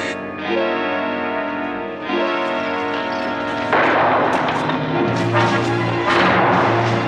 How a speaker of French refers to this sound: Mais ce sont des coups de feu.